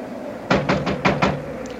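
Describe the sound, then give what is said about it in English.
Five firm knocks on a cabin door at 3 in the morning in a quick, steady rhythm, fairly loud, followed by quiet with no voices. “All right, come along. I'll knock.”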